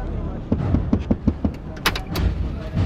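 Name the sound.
pickup truck door opening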